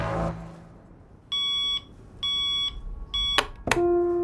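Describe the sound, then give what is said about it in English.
An alarm clock beeps loudly in three evenly spaced electronic bursts at 7 a.m., then a sharp thump as the snooze button is smacked cuts it off, followed by a brief lingering tone. “smacks the snooze button on his clock, silencing the deafening alarm.”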